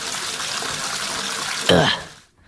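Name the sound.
shower water running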